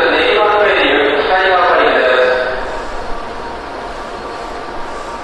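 train arriving at platform

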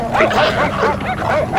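dogs barking and yipping

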